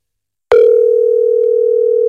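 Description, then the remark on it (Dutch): A telephone ringing tone on a call that goes unanswered starts after a brief silence: a single steady, fairly loud electronic hum-like beep that holds unbroken to the end, with no one speaking. “Eens even kijken of we contact kunnen krijgen met onze grote vriendin”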